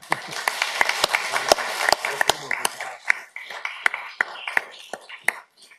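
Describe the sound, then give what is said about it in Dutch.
A small group applauds with a brisk patter of sharp hand claps that grows sparser and more scattered before fading out, with a faint murmur of voices underneath. “Dus ik wil eigenlijk ook nog een keer vragen om een klein applausje voor de paard heb van onze burgemeester.”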